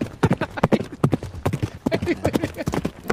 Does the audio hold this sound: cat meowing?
no